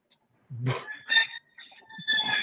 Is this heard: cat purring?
no